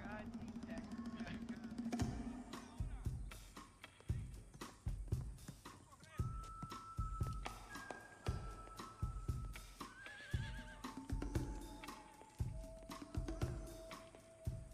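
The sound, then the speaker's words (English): Horses whinny and neigh several times over steady clattering hooves, with bright, wavering calls rising above busy stable-like activity and an occasional voice in the background. “I'm looking to buy a horse, the white. That's it right there.”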